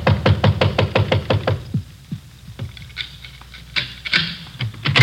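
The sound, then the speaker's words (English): A rapid burst of loud knocking or rattling on a locked door, a dozen quick hits, then scattered duller thumps and jiggles as the handle is tried. No voices. “Try the door.”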